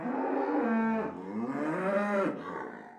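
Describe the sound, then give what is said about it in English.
A cow moos loudly on a family farm in the morning before feeding, two long drawn-out bellows running together with rising and falling pitch, the second fading out at the end. “Well, this morning we're gonna feed all of our sale and our show cows, and then we're gonna tie all of our show cows up, and they're gonna have their fan and their food and get their show careers started.”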